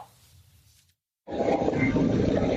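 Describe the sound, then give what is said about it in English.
A medical helicopter engine sputters after a mechanical problem, moments before the helicopter crash-lands next to a church in a residential area near Philadelphia, caught on surveillance video: a low, uneven rumbling cuts out into a brief silence, then a loud, harsh roaring noise bursts in and holds steady to the end. “In this surveillance video, you can hear the medical helicopter engine sputtering moments before it crashes next to a church in a residential area near Philadelphia.”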